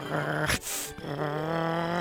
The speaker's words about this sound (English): Later, the boy heard a real wolf growling.